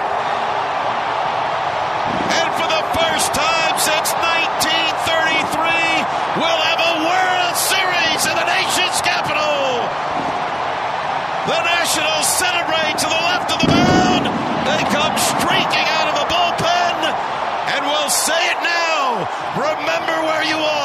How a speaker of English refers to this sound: Bang. Zoom go the fireworks. A National League championship winning.